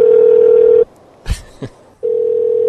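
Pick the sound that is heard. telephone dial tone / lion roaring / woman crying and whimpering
telephone dial tone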